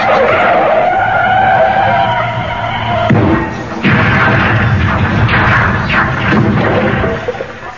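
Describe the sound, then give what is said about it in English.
A car's tyres squeal loudly in a long skid, followed by a rumbling engine and a few more sharp screeches as it lurches to a stop. No voices. “Yes, well, I thought we'd get out the car first.”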